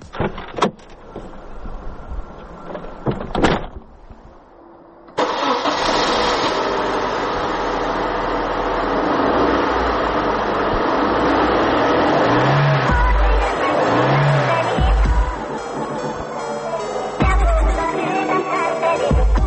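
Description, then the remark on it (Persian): A few clicks and clunks, then the small engine of a Pride car abruptly roars to life and keeps running loud, revving up in several surging swells. “خودروی پراید شاید بیش از هر چیز دیگه من و هم نسلام رو یاد مجموعه تلویزیونی بندازه به اسم خودروی تهران 11 که در دهه 80 اگر اشتباه نکنم پخش میشد، که یک پرایدی بود که دست شخصیت‌های مختلف میچرخید.”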